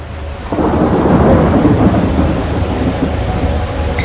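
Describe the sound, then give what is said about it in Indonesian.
Heavy rain pours steadily at night in Bandung while a deep rumble of thunder swells in after a moment and rolls on loudly, filling the whole scene with a dense, continuous roar. No one speaks. “Malam itu, Bandung diguyur hujan yang lebat.”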